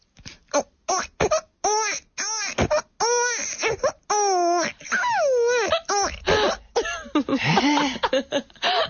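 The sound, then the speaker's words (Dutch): A person imitates a baby crying, producing a run of short wailing bursts and rising-falling whimpers, fairly loud, with brief gasping pauses between cries. “ik heb gehoord dat jij heel goed een baby kan nadoen.”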